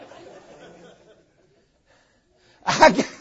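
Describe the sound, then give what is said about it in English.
A single loud, explosive sneeze bursts out after a stretch of faint background murmuring and a brief silence. “God bless you, man of God.”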